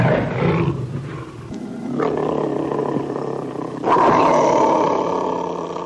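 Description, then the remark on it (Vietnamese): A tiger trapped at the bottom of a well roars loudly, crying for help, a sustained rumbling growl that swells, dips, then surges again into a harsher, louder roar near the end, with no talking. “Cọp tuyệt vọng kêu cứu.”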